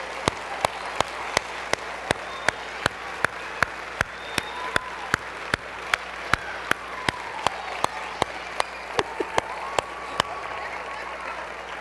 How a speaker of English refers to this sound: if we could, just once more, teachers, coaches, those of you who work directly with children, teachers' assistants, would you stand and let us just honor you? Would you stand where you are? Would you just give these folks a huge round of applause?